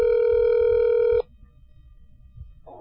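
A phone call's ringing tone sounds once, a steady electronic buzz lasting just over a second, then cuts off to faint line hiss and quiet background.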